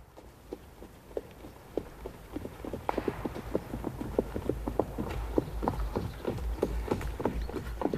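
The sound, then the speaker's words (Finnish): Horse hooves clip-clop in a steady, brisk rhythm, growing slightly louder and busier as a party of riders approaches the village of Rantasalo, with no voices present. “Heti sodan jälkeen Erosten kotikylään Rantasaloon ratsastaa joukko arvokkaita vieraita.”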